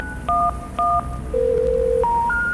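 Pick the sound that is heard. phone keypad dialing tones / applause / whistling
phone keypad dialing tones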